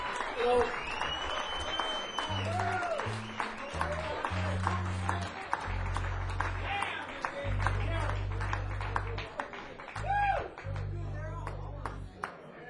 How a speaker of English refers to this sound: Big round of applause.